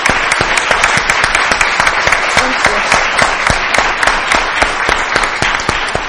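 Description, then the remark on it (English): A steady round of applause from a sizable audience at a worship gathering, honoring servicemen and women and their family members. Dense overlapping claps with a few sharper individual hand claps standing out, sustained at an even level throughout without any talking. “Let us share our appreciation with a round of applause.”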